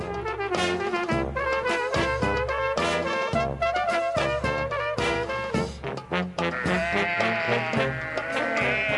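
Sheep bleat repeatedly amid a loud, busy musical backing with a steady beat, the wavering bleats layered into the mix throughout and no one speaking.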